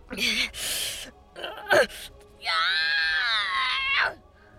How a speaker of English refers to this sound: The imp bared his teeth in pain. It worsened when Kotake caused the ice lodged in his shoulder to expand. The imp screamed, gripping the end of the growing ice arrow.